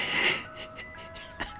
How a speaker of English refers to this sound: What the fuck is that? What's that? Is that? Is that an ice cream truck? Oh my god!